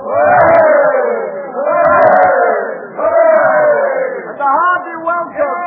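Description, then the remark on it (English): A crowd cheers loudly to welcome Penn home, voices rising together in four or five swelling hurrahs, each shout surging and then dipping briefly before the next. “Cheers for friend Penn.”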